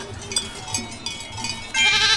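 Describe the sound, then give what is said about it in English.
A goat bleats repeatedly, its wavering, nasal cries rising and falling, with a louder, sustained bleat swelling at the end amid faint background noise. “I hear a goat over here.”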